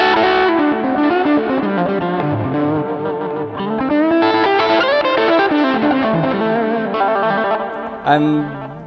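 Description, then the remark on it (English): An electric guitar through the crunch channel of an amp simulation, said to simulate a Marshall JTM-50, plays a run of gritty chords and notes in a crunchy, overdriven tone, sustained and fairly loud, with no voices, ending on a sharp struck chord. “This is the crunch channel.”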